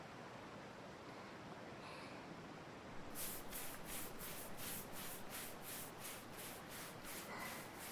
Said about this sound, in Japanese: 次はこちらのボディタオルを使ってお体を洗わせていただきます。泡立てて。では失礼いたします。